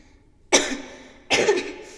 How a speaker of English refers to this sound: Are you all right? I can't stop coughing. I was wondering if you had a sea lion in bed with you. They sometimes sound that way.